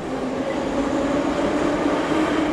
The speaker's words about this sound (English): And in Moscow, to underground subway stations like this one.